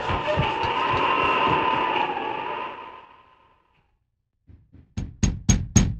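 A rushing, windy noise fades to silence, then someone knocks on a door on a snowy evening: two soft taps followed by four sharp, loud raps in quick, steady succession.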